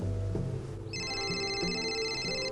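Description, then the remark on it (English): A telephone starts ringing about a second in as Richard phones Patricia, a steady, bright electronic tone that holds to the end, sounding over a low hum or music bed with no one talking. “Richard phones Patricia.”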